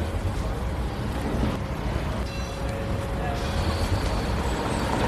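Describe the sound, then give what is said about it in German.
A steady roar of heavy vehicles and large construction equipment at a site where a long scaffolded residential block is being renovated in the Telli district of Aarau, with much additional traffic and a faint high whine partway through. “Man hört darum während allen Aufnahmen von dieser Episode, hier wird geschafft, mit grossen Geräten und mit viel zusätzlichem Verkehr.”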